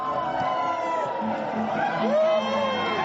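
A large crowd screams and cheers continuously, with rising whoops and shrieks over a dense, loud wash of voices that holds steady throughout.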